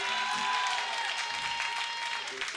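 A crowd claps steadily throughout, a dense, even wash of applause with a faint sustained tone running underneath and brief low murmurs.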